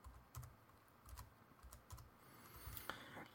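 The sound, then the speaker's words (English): Typing an email address on a computer keyboard: a steady run of soft, irregular key clicks, about a dozen taps in a few seconds, with no voices over them. “So I'm going to key in an email address, and it has to be a real email address. So I'm typing that in right now.”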